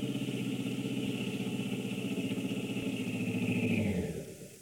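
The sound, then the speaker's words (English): A car engine rumbles steadily, then its pitch sinks as the car slows and pulls up in front of a house, settling into a quieter idle at the end. No one speaks. “Pull up in front of that house, will you?”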